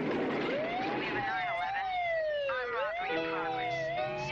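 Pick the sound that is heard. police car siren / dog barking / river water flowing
police car siren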